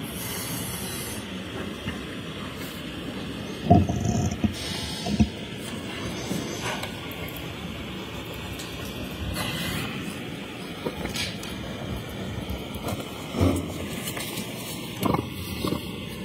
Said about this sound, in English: You earlier mentioned that the tow truck brought the defendant's Lexus to the Canton Sally Port. Do you know if there's a video depicting that arrival?